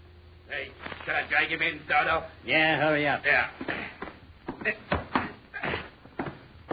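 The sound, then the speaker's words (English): A door is opened with a run of clunks and rattling knocks, fairly loud, amid muffled voices and shuffling movement. “Open the door”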